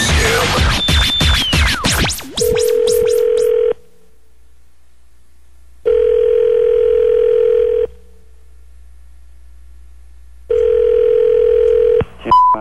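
A quick burst of telephone dialing for a prank call on the Mojo Joe in the Morning show gives way to a steady phone tone that sounds in three long pulses with silent gaps between, loud on the line.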